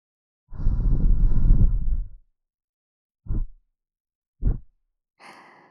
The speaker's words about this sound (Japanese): 私の吐息があなたの耳に吹きかけられるたびに、体が跳ねてしまっているの。